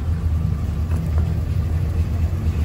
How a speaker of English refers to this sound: So, considering that last night it was minus 16 here, right now it's around minus 6. Well, this truck usually fires up quite well.